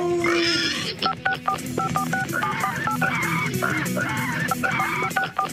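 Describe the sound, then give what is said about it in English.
A pig squeals in a rapid series of sharp, high-pitched cries, loud, repeating without pause over a busy, noisy background with no one speaking; the squeal is used as a radio contest cue for callers. “Starting this Monday after 6 a.m., listen for the pig squeal cue to call.”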